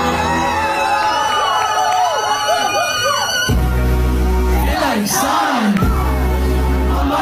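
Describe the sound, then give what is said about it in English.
A huge concert crowd at a singer's first live show screams the song's lyrics back at him, a dense, loud wall of many voices with rising, wavering tones for the whole stretch. “As I sang the first lyrics to the song and everyone was just screaming it back at me, like I almost was like speechless.”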